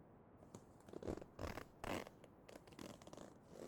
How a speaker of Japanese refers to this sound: チャック開けんね。